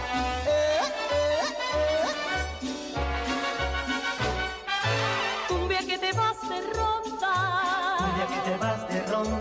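A lively cumbia tune plays loudly and steadily, with a pulsing bass beat under bright, bending melodic lines and a wavering lead that comes in near the end.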